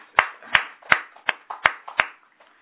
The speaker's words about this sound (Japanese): 満5歳を迎えられましたので盛大な拍手。